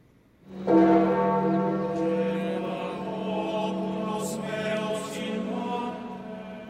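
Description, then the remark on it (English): Church bells tolling slowly as Pope Francis's coffin was transferred to St. Peter's Basilica: a deep resonant strike rings out and hangs with a long humming decay, louder at first then sustained, with faint higher chimes layered in and no voices. “Bells tolled slowly as Pope Francis's coffin was transferred to St. Peter's Basilica for his body to lie in state for 3 days before his solemn funeral on Saturday.”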